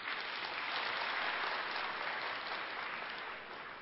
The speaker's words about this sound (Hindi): मैं तो कहता हूं जिन्होंने हाथ उठाया उनके लिए हम एक बार ताली बजाएं।